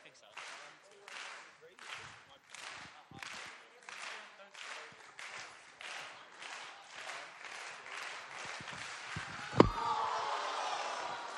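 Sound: audience slow clap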